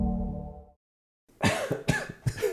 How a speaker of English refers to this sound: Yeah, right. My coughing is clearly a part of my whiskey tasting style.